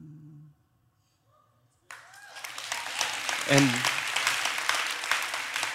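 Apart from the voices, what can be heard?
audience clapping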